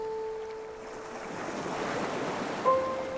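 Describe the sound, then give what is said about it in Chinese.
Ocean waves wash up on a beach of fine, soft sand in a soft, continuous rush that swells toward the middle, with breezy hiss and a faint steady tone briefly at the start and end. “海浪对应着回忆，拍打在细软的沙子上，被明亮晒得周身滚烫。”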